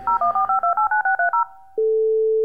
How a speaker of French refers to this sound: Ah, oh, le jingle téléphone, trop nul.